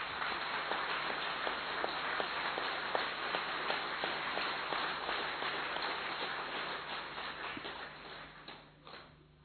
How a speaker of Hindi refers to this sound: एक बार जोर से तालियां बजाएंगे।